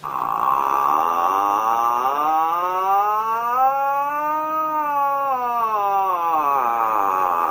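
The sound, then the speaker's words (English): A person lets out one long, loud imitation of an intimidating dinosaur roar as a war cry, a strained, wavering yowl lasting several seconds whose pitch sags in the middle and climbs again toward the end. “Let's hear your war cry. Give us a good intimidating roar.”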